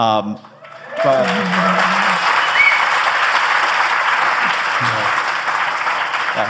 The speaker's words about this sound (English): Pause for applause.